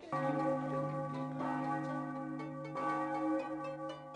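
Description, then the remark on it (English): Church bells ring out at 8:25 in the morning in a steady, overlapping peal, their rich tones sustaining and layering over one another for several seconds, fairly loud, with no voices present. “Those bells. What time is it?”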